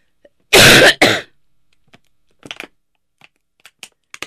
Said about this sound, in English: Hold on, I need to cough.